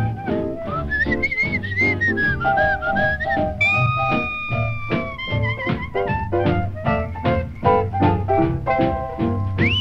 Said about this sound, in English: I found out, I know it's true, what the whistle does more for you. I love to whistle, yeah.